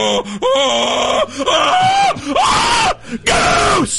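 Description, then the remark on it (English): A loud, excited scream erupts in several long, rising and wavering bursts, piercing, with brief breaths between them and no other talking; a commentator screams as the Dallas Cowboys draft receiver Tedderell McMillan at number 12. “Did you hear I screamed so loud I didn't even hear your answer”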